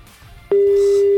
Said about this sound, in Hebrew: וחלפו 8 שניות מאז הצלצולים. הטלפון מצלצל, כנראה שאנשים עסוקים, נמצאים באיזה מעיין, איזה טיול, איזושהי אטרקציה, אולי הלכו לאכול קיגל, בצפת, או במקום אחר.